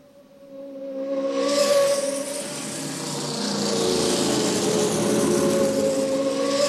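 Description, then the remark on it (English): Cars speed past with a loud, sustained engine roar and rushing whoosh that swells quickly and stays strong, with steady tonal engine hum throughout. No one speaks. “Yes, they are cars. Да, это машины. Are they going fast or slow? Они едут быстро или медленно? Fast. Very, very fast.”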